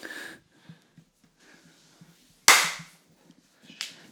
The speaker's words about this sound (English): That was a shit clap.